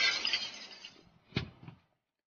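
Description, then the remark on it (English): The glass over a display of bright stones is smashed with a chair: it shatters loudly with a bright, crashing burst, then shards tinkle and clatter down, with a couple of sharp knocks as pieces fall before it fades to silence. “This chair ought to do it.”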